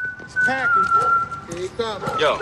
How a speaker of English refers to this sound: the Ravens honored Michael K. Williams, the late, great Michael K. Williams, before their Week 2 victory over the Chiefs. And they did it, of course, by playing the iconic whistle of his character Omar from The Wire.